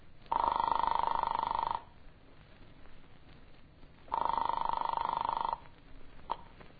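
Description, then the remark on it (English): Two long telephone ring tones heard through the receiver of a farmhouse phone after dialing an apartment at night, each lasting about a second and a half, separated by a pause of quiet line hiss. No one speaks. “He eventually led me to the phone and I dialed my apartment.”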